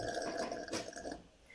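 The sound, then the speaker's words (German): A wet, sputtering raspberry blown with the lips imitates a fart, buzzing steadily for about a second and a half before trailing off slightly, with no talking. “Das war das Furzgeräusch”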